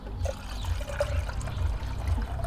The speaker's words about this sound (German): Ist jetzt aufgelöst. Ich guck mal. Jawohl. Das Ganze natürlich mit kaltem Wasser dann auffüllen.